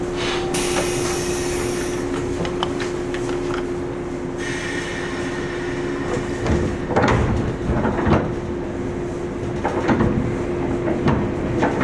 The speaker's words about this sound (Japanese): 扉閉めます。